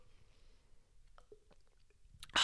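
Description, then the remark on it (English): Someone takes quiet sips of water, with soft wet mouth clicks and a few faint swallowing gulps, then a sudden loud, breathy burst at the very end. “If you listen to the show, grab your water no matter what. We're going to hydrate in 3, 2, cheers, my gorgeous queen.”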